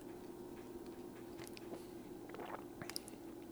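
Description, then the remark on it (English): Quiet wet mouth sounds as someone sips and swallows home-brewed beer, fresh out of the fermenter with moonshine in it: a soft slurp and a gulp followed by a few small clicks of the lips and tongue, set against a steady low background hum. Nobody speaks. “Just a sip and a swallow, and it's.”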